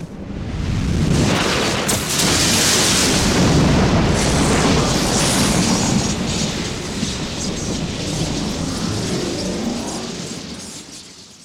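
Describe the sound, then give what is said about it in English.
A loud rumble of thunder with crackling lightning in a video game cutscene rolls on for several seconds, with a sharp crackling burst near the start and deep booming that slowly fades. No one speaks. “Lightning crackles, ominous thunder booms, and a voice speaks to us from the heavens.”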